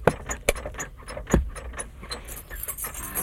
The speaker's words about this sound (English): And put the keys away.